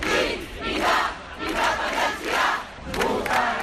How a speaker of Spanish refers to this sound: Esta ha sido la banda sonora que ha acompañado a Barcelona durante los últimos días. Gritos a favor de la independencia y del referéndum del 1 de octubre.